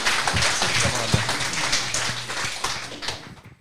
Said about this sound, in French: Bon, qu'est-ce que serait tout ceci sans Monsieur le maire ? On peut applaudir très fort, s'il vous plaît. Monsieur le maire Didier Larrazabal, le maire de Pontac.